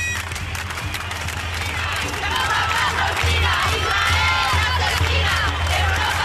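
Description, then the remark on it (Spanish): A crowd of more than 1,000 people at a pro-Palestine rally in front of Palma City Hall shouts slogans such as "no es una guerra, es un genocidio" in unison, many voices rising and falling in rhythmic chanting bursts over a steady low rumble, loud and continuous throughout. “Con pancartas de Palestina libre y viva la lucha del pueblo palestino, o gritos como "no es una guerra, es un genocidio", más de 1.000 personas se concentraban ayer por la tarde frente al Ayuntamiento de Palma.”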